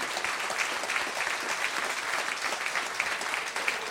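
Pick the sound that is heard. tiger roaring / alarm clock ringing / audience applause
audience applause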